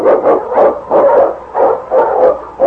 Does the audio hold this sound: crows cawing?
no